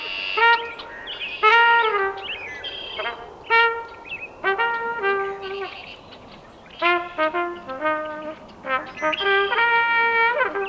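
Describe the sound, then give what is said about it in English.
A lone trumpet plays a slow outdoor melody in the early evening, held bright notes separated by brief pauses, fairly loud, with a few faint red-winged blackbird calls scattered in the background. “plays his trumpet in the early evenings, and a few weeks ago, he took the show outdoors with only the red-winged blackbirds for backup.”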